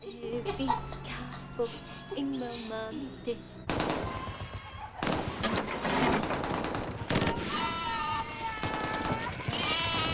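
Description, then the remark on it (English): A flock of sheep trots past a building, bleating in overlapping wavering calls, while bursts of gunfire and a dense mix of noise fill the background. “They leave the building just as a flock of sheep trot past.”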